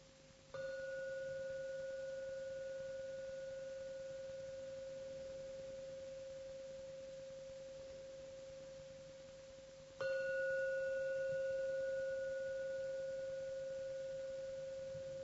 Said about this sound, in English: Now I'm going to ring the gong 3 times. Please listen as usual to every sound from the gong. When the last sound from the gong disappears, come out from your meditation.